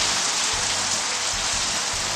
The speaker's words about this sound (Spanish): Viento fuerte. Y mucha, mucha lluvia.